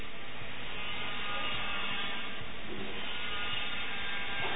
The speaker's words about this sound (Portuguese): E do lado direito tem um gatinho aqui no estúdio.